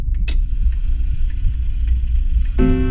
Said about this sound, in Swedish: Timmarna går och hemma på Strandvägen slår väggklockan snart 6.